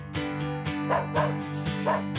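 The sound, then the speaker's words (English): A dog barks playfully in a quick series of yips and woofs, fairly loud, with a rhythmic back-and-forth energy and no talking. “We love the sound of play.”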